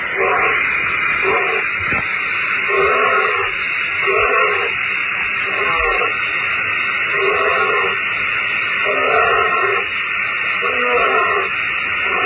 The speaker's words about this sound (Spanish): Este es el sonido que nos entrega la televisión australiana sobre ese presunto tigre marsupial.